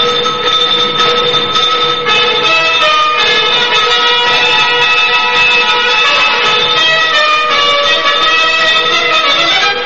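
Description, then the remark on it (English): A loud, sustained train horn blares almost continuously over the rumble of a train speeding southward from London toward Boscombe, its chord shifting slightly a few times before holding steady to the end. “Just chit-chat on a train speeding southward from London.”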